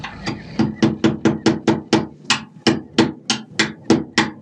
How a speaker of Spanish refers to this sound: Las adormecidas víctimas son metidas en cajones y un siniestro claveteo se escucha enseguida.